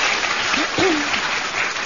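studio audience clapping

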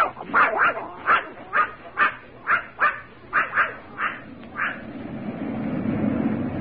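dog barking

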